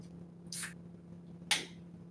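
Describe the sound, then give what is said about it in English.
Two bright hissing bursts about a second apart over a low steady hum: a soft fizzy rush, then a sharper crack-and-hiss as a beer can is cracked open mid-drink. No one speaks. “That was, you were mid-drink and cracked it open.”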